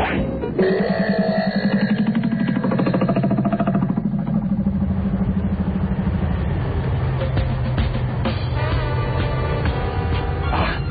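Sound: car engine driving away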